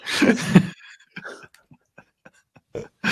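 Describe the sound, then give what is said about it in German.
A dog snoring during a video call: a loud, rough, raspy burst at the start, then scattered short soft snuffles and clicks, ending with another harsh breathy burst. No one speaks. “dein Hund schnarcht, glaube ich, wieder.”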